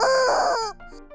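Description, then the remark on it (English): A rubber chicken toy lets out one loud, strained squawk lasting about half a second, then trails off into a few faint, wheezy squeaks as the air runs out. “Just another chicken squeeze.”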